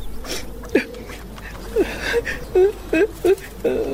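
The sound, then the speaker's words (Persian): A woman cries and whimpers in short, broken, quavering sobs that come quicker and more often toward the end, moderately loud. “چی گپ شده؟ چرا گریه میکنی؟”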